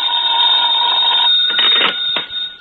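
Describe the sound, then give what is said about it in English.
A telephone bell rings loudly for an incoming call late at night, nearly 11 o'clock, a sustained bright metallic jangle that runs for a couple of seconds and ends with a few sharp clattering knocks. “I wouldn't hear from him for days, and then all of a sudden he'd call up at the craziest time.”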